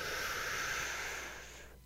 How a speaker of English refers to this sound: And on the count of three, take the deepest breath you can. All right, here we go. One, two, three. Inhale.